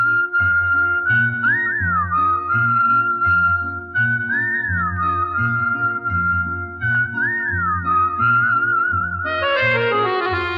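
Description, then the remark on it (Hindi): A girl whistles a steady, clear melody with quick warbling trills over a rhythmic musical backing, ending in a bright, rising flourish. No one speaks. “अगर वो कुछ बोले तो मुंह से फूल छड़ते हैं, लेकिन वो बात कम करती है, सीटी ज्यादा बजाती है।”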